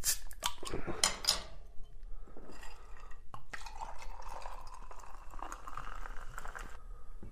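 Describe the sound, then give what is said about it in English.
A few clinks and handling noises open, then a steady stream of fizzy Sassy pear cider pours into a cocktail glass of lime juice and sugar syrup for several seconds, bubbling and hissing, with no talking. “And then we're going to top that with the beautiful Sassy pear.”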